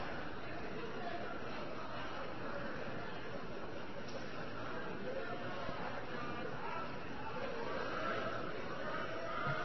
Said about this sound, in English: Order, Mr. Speaker. Listen to the hooting wingnuts. Both sides would do well to remember the dignity of the House.